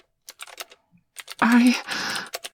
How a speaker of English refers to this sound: Are you typing out everything that I'm saying?